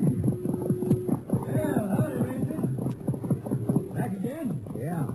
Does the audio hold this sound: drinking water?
no